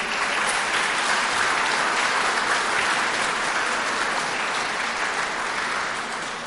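An audience claps steadily, a dense wash of many hands sustained at an even loudness for several seconds before easing slightly at the end. No one speaks over it.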